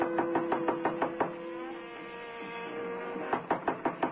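Two bursts of firm, evenly spaced knocks on a 12th-floor hotel room door, about half a dozen raps each, separated by a pause and going unanswered, with faint muffled jazz from a radio inside the room playing steadily in the background.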